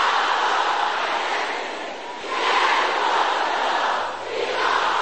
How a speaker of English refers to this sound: Can I hear the sister shouting this? Can the sisters shout it again loud?